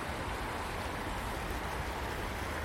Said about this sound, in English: So we're just on the banks of this little brook.